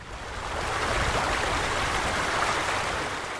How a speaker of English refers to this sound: Water pours across the valley's Mill Road.